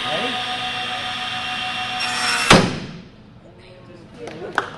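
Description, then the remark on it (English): A SawStop table saw blade slams to a stop as a hot dog touches it during a demonstration to a high school shop class: a steady, high-pitched saw whine ends abruptly in one loud, sharp bang, followed by a quiet hum and a couple of faint knocks. “As soon as the hot dog touches the blade slams to a stop.”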